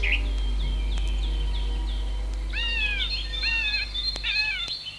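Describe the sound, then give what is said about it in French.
Birds call in a forest of old fir trees, with sunlight coming through the branches: a run of quick, high chirps, then louder sweeping, slurred notes repeated several times, over a steady low background hum. No one speaks. “On entend le bruit des oiseaux.”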